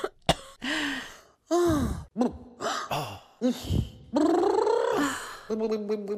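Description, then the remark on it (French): A single voice runs through a quick string of wordless vocal sounds: a drawn-out yawn, rasping snore-like breaths and wavering moans, some breathy, some sharply voiced, with brief pauses between. “Elle bâille, ronfle, gémit.”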